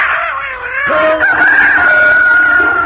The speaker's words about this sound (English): The cat spit and scratched the robber, and the dog barked and bit his leg, and the rooster crowed and pecked his ears, and the donkey brayed and kicked him out of the door.